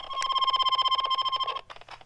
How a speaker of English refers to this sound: Maybe it's just too close. Yeah, just that was feedback. But yeah, we've got Morse code through the airwaves. That's a little squirky, a little squonkly, but let's test the other radio's transmit.